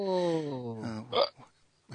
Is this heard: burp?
yes